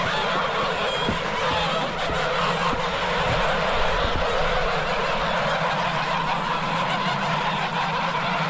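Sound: geese honking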